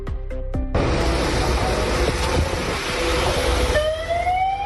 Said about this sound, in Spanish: Es el sonido de las grúas y las máquinas retirando los coches incrustados entre el lodo ya compacto en el barranco del Pollo, donde trabajan los bomberos del GES de Muros, junto a compañeros de A Coruña o de Santiago